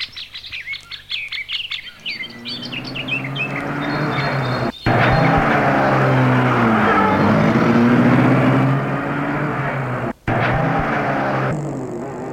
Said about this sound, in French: Et une fois sorti de la propriété, il court à toute vitesse vers la voiture. Ils y rentrent. Et Florent met la voiture en route.